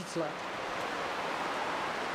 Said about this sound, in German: Als ich aus der kühlen Höhle hinaus auf den Grund der Mazocha-Schlucht trete, höre ich das Rauschen der Punkwa, die hier aus dem Berg raus und dann wieder reinfließt.